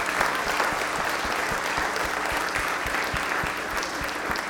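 A church audience applauds its new members steadily, a dense wash of many hands clapping at once, sustained and fairly loud throughout with no voices standing out.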